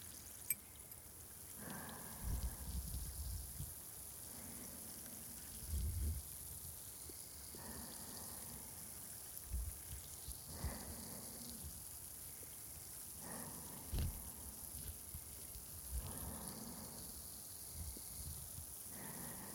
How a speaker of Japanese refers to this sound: さて、次は炭酸綿棒を準備して、さあパチパチしていきますね。